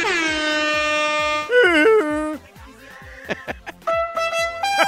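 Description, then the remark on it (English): A long, loud air horn blast opens, followed by a wavering, pitch-bending horn and then several short, sharp horn bursts, all over a steady driving drum beat, sounded to hype a Heat–Lakers basketball game. “Give me the air horns.”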